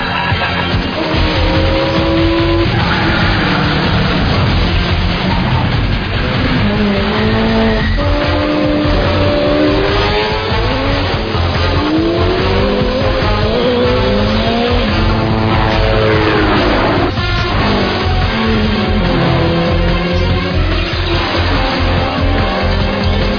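Three Mini cars race at full throttle through a storm drain heading east towards the LA River, engines revving and rising in pitch while tires squeal and skid repeatedly. Loud throughout, with no voices.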